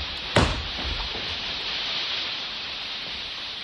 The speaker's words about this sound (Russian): О, дождь! Бежим, бежим скорее к нам.